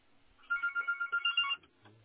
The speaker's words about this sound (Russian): Ну, просто гудок идет, как я слышу, как будто просто телефон не звонит.